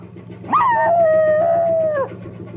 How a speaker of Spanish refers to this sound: Otro perrillo ladra desde el techo de una barcaza que navega por un río entre campos.